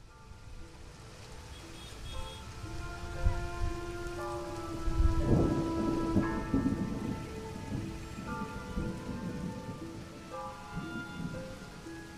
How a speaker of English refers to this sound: Storms come in all shapes and sizes. Striding through swollen puddles in a dismal downpour,